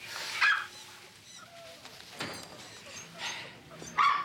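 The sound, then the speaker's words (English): A puppy gives short, high-pitched yips, one burst near the start and another at the end, with softer whimpering and background noise in between. “In front of the puppy.”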